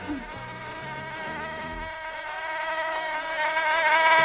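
A mosquito whines, a thin, high-pitched buzz that holds steady and slowly grows louder, as if hovering right at the ear, with no talking.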